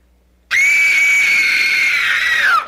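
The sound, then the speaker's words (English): A person screams like a ghost to scare someone: a loud, sustained high-pitched scream begins abruptly after a short silence and holds steady for about two seconds before trailing off, an eerie ghostlike wail with no talking. “Boy, I screamed great. I almost scared myself.”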